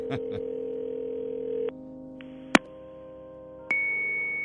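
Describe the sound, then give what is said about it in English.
Fax machine tones on a phone line: steady electronic pitches that hold, then switch abruptly to new tones a few times, with sharp clicks at the changes. No voices. “that would be HB's fax machine”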